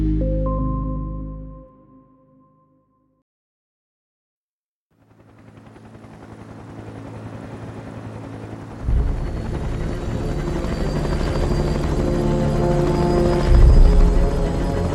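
A rescue helicopter's rotor thuds in rapid, steady pulses, swelling into a loud roar with heavy engine whine as it lands on a rock plateau in the mountains in thick fog and stormy wind. A short tonal jingle fades out before it, followed by a brief silence.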